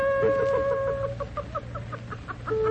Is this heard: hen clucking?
yes